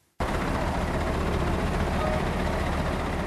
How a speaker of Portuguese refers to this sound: O autocarro da ONG Dom Bosco passa pelas ruas da capital da Serra de Leoa, Freetown, todas as sextas-feiras.